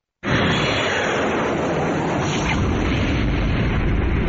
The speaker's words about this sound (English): The sound of the airplane hitting one of the Twin Towers almost 11 years ago.